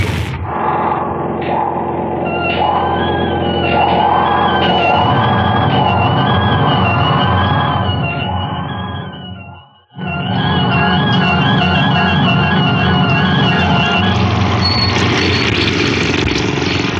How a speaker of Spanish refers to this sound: Lanza la frágil embarcación a toda velocidad contra los arrecifes. Imprime al máximo del motor y mantiene el timón firme hacia las encrespadas rocas donde las olas se estrellan entre coronas de espumas.